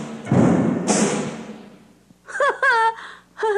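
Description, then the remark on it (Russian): A couple of heavy, booming thuds like ominous footsteps, each followed by a rumbling decay, then a burst of eerie, wavering high-pitched tones. “Раздаются чьи-то страшные шаги.”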